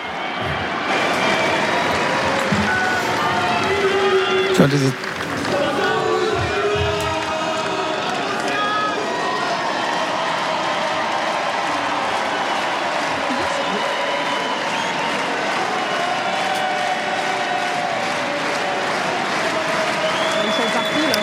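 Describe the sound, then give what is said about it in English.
A large stadium crowd cheers and applauds for tennis player Dion Parry after her win to reach the fourth round, in a sustained, loud roar with whistles and shouts rising over dense clapping, a sharp burst near five seconds, then steady celebratory noise throughout. “Too much cheering for Dion Parry to start talking yet.”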